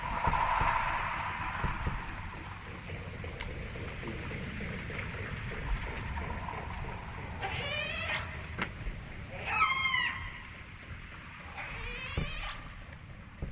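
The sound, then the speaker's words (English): Faint, scattered echolocation clicks from orcas hunting tap through a steady underwater hiss, joined later by a few loud, rising squealing calls. No one speaks. “So the tap, tap, tap, tap, tap, yeah. That's them hunting.”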